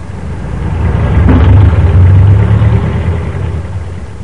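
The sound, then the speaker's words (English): Traffic rumbles past a roadside store, a low engine drone swelling as vehicles approach, peaking, then fading away. No voices, only the steady whoosh and hum of passing cars. “Zeb leaning against the door jamb watching traffic flow past”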